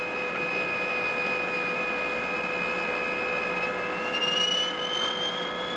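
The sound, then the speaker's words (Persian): A jet aircraft, an Iranian plane, roars steadily overhead, its high turbine whine holding a sustained drone that climbs slightly in pitch toward the end. Loud, with no voices. “اونهاش اوزای عراقی، هواپیمای ایرانیه”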